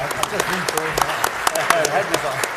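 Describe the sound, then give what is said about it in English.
A crowd applauds a panel with a steady, dense patter of many clapping hands, moderately loud, while voices talk faintly underneath. “Yes, and please just give the panel a round of applause.”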